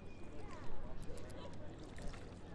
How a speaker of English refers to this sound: I'm just going to crouch down to try and get some of these little wavelet sounds.